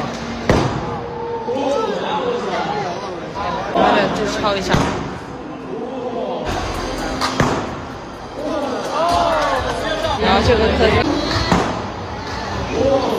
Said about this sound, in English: That is insane that they were willing to do that, because you would think after being beaten all day with a hammer, it would just dent. But that's how strong this thing is.